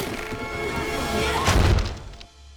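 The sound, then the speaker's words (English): The front door of a house slams shut with a single loud, booming thud about halfway through, rising out of a dense rumbling background and then fading into near silence. “They climb out of the broken rear window and run for the front door. It slams in their faces.”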